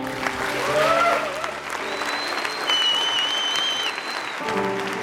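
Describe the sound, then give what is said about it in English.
An audience applauds loudly and steadily for about five seconds, a dense wash of clapping with a few thin, high-pitched tones gliding above it and sustained low musical notes underneath. “Come on, keep that applause going.”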